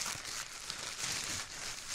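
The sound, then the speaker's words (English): A paper napkin crumpled right against the microphone to imitate a burning fire for a homemade radio play, a continuous close crackling and crinkling rustle that stays fairly steady for a couple of seconds, with no voices. “the way to make it sound like perhaps a burning fire was to crumple paper or a napkin next to the mic?”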